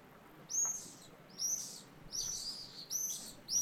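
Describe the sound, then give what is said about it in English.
Swallows flying in and out of their nests in a flying-saucer building with holes in its copper roof, recorded in front of the main entrance, chirp in quick, high, bright bursts, about five calls repeating roughly every three quarters of a second over a faint, steady background hiss, with no voices. “I'm standing in front of the main entrance, recording the swallows flying in and out of their shelter.”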